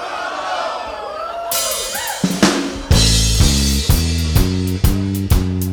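A crowd yells a short phrase together in a loud, ragged chorus, then a band crashes in with loud, driving music and heavy, evenly spaced bass hits.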